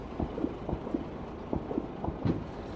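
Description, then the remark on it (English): Distant gunfire in Helmand, heard as lorries are loaded: a string of dull, muffled low thuds, some in quick pairs, popping out irregularly over a steady background rumble. Nobody speaks. “As the lorries are loaded, though, you can still hear gunfire in the distance.”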